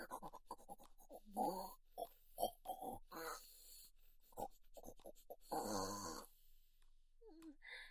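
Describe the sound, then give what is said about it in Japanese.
A person imitates a pig, snorting loudly through the nose while sniffing a smell, in a rapid, irregular series of breathy grunts, with a few longer drawn-out snorts and a brief vocal squeak near the end. “豚鼻鳴らしておちんぽ様の匂いを嗅ぐのやめられません。”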